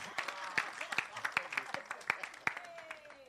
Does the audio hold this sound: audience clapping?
yes